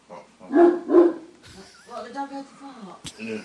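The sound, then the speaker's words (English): Two loud barks in quick succession, then a higher whining, yipping stretch and a final sharp yelp, from several different dogs at a house. “There's several different dogs there.”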